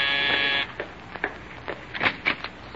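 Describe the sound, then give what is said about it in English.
A harsh, steady doorbell buzzer sounds once for about half a second, then cuts off, leaving a few faint knocks and footstep-like taps. “I'll answer the door, Rochester.”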